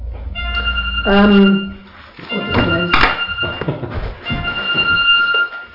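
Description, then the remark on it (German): A telephone rings with steady, high electronic tones that persist throughout, while voices talk over it. “Okay, hier klingelt gerade ein Telefon, da warten wir mal ab, bis das leise ist.”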